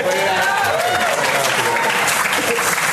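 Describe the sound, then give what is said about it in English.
An audience claps steadily and loudly throughout as a bag is brought in on stage, a dense wash of applause with a few voices calling out and cheering mixed in. “We all get so confused on stage when you clap for a bag coming in.”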